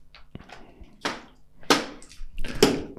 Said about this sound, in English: That's his plastic water bottle on fridge that you're hearing.